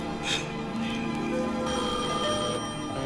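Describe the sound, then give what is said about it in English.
A telephone rings with a steady, bright bell-like tone for a few seconds, clear, with a faint murmur in the background. “to that phone. She gotta be there.”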